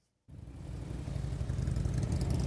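Veterans' motorcycle engines start up abruptly after a brief silence and rumble steadily, a deep throbbing idle that grows slightly louder and fuller, with no voices, at the Massachusetts National Cemetery in Bourne, Massachusetts, during Operation Flags for Vets.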